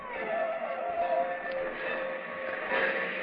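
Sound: train approaching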